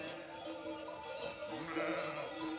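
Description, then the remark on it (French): A flock of sheep bleats continuously while moving, led by a shepherd on transhumance, many overlapping calls blending into a steady chorus, with faint clinking bells mixed in and no talking. “Steph, c'est aussi un berger, quoi, qui mène son troupeau. Et le fait que lui, il passe devant, ça roule tout seul”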